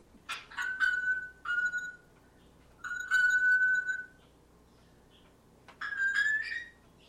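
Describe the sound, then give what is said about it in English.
Phoebe, an African grey parrot, mimics a bell ping in a living room of a house in Fairbanks, producing four clear, bright ringing tones in uneven succession, each with a sharp start and brief sustain, with no talking. “That is a noise that's made by Phoebe, who is an African gray parrot.”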